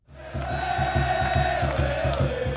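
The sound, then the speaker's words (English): A huge sold-out stadium crowd of Seattle Sounders soccer fans at Quest Field roars and cheers without letup, loud and dense, while a steady, rapid drumbeat pulses underneath the noise. “Every seat is sold out, and the cheering is deafening.”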